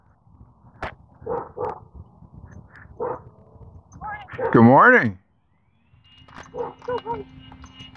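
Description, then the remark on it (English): A small dog being walked by a woman lets out several short, high yips, then a louder, drawn-out yelping bark, followed by a brief pause and a person calling out a greeting outdoors on a Sunday morning. “Here comes the lady with her little dog.”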